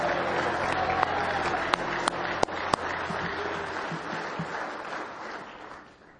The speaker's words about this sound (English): A big hand clap of praise if you love him with all your heart.